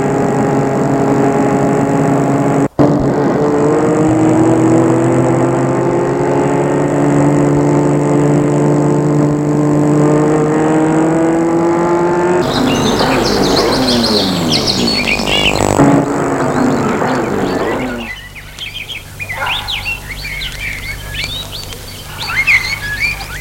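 A car engine hums steadily and shifts as the vehicle drives up to the half-rusted iron double gate of a large walled estate in open countryside, then the motor fades and birds chirp and tweet in the quieter background.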